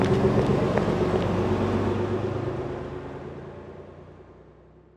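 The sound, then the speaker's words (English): A bus engine rumbles loudly at first with a steady low drone, then fades gradually as the vehicle pulls away, leaving only a faint hum by the end. “Oh no! The bus! The bus!”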